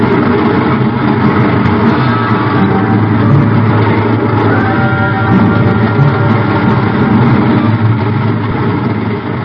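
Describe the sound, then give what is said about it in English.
A train thunders under a bridge: a loud, continuous, deep rumbling roar with a heavy engine drone, holding steady for several seconds with slight swells and no voices. “I reach up and jerk it loose just as the train thunders under the bridge.”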